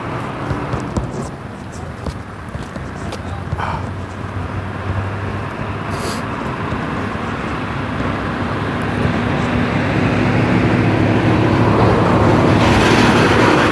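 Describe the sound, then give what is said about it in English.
A UPS delivery truck rumbles along a neighborhood street just after 9 o'clock, its low engine drone steadily growing louder as it approaches over several seconds, set against continuous outdoor road noise. “Wow, UPS is early.”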